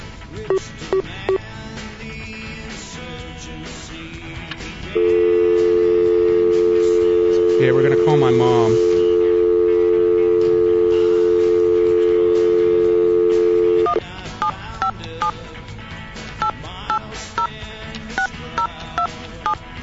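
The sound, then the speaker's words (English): Short electronic phone-dialing beeps, then a long, steady telephone tone holding for several seconds, followed by another run of keypad beeps. The call to a woman who is away from home and her phone goes unanswered, and no one speaks on the line. “Apparently she's not even near her phone either.”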